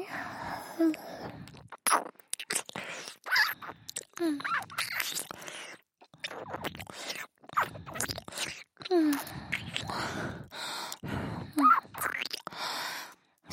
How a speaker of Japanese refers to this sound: 私の吐息、耳にかかると、肌ビクってする。気持ちいいんだ。もっと吹きこけて、頭の中乱してあげようっと。